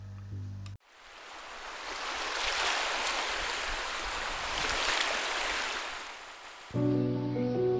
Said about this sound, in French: Je reste émerveillée du clapotis de l'eau, des oiseaux casoueurs, ces bonheurs de la terre.